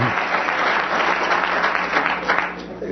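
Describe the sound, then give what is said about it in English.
A crowd claps steadily, a dense, sustained burst of applause from many hands that holds at a fairly loud, even level for a few seconds before tapering slightly at the end. Some audience members are applauding Rumsfeld. “Who is applauding Rumsfeld?”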